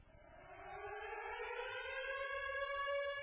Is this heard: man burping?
no